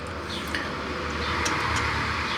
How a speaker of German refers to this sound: Ich meine, die schönen Autos, die ihr wahrscheinlich ja noch hört, die vorbeifahren.